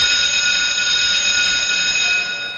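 A loud electric bell, the last bell, rings continuously for a couple of seconds, a shrill, steady metallic clang with no break, tapering slightly at the end and no voices.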